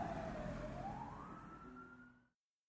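In the fan-made audio drama Simsville, a fire truck siren wails over low traffic rumble as the trucks head towards Sim Lane, its pitch sweeping upward and then holding steady as the sound gradually fades before stopping abruptly.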